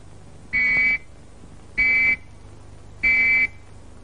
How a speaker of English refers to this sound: Or three whistles. Like this.